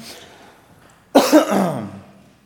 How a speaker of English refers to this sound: It's like everything's loosening up here, and my voice is weird, and I'm coughing, and so if I have to sip on my coffee, please forgive me.